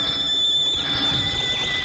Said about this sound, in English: It began when David, my husband, he's an artist, rang Miss Mamie's old-fashioned doorbell.